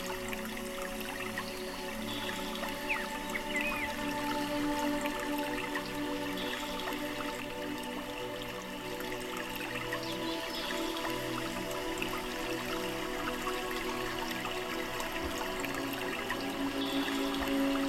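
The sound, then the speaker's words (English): A cascading waterfall rushes steadily and continuously, a dense wash of falling water with fine splashes and trickles, heard at a moderate, even level with no voices. “Around the side of the mountain, you enter a cascading waterfall, bringing with it all of the energy of the universe as it streams down all over your body, washing away all impurities.”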